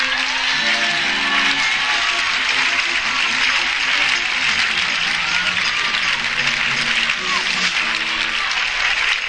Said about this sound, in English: Let's have a big round of applause